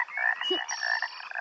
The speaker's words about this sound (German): Das ist die Schallblase. Je größer sie diese aufblasen, desto lauter können sie quaken. Die Kröten dort können das nicht so laut. Boah, ist das laut. Quaken die etwa immer so doll? Nur im Frühling und nur die Männchen.